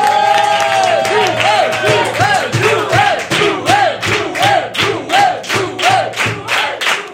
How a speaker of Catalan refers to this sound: Rebem un fort aplaudiment a Joel Joan.